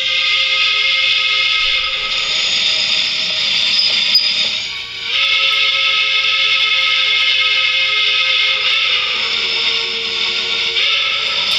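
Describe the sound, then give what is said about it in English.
A coal-fired steam locomotive's whistle on the Cass Scenic Railroad in West Virginia blows long and loud, a sustained harmonic chord that dips briefly around the middle before resuming and holding steady to the end, with no voices. “The train whistle is got to be heard.”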